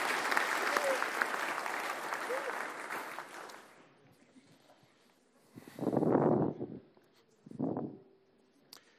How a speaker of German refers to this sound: So, jetzt ist das Eis gebrochen und ich denke, die Täuflinge haben jetzt mal einen großen Applaus verdient.